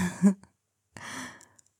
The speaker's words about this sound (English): Panting. Desperate. You're really, really desperate, right, baby?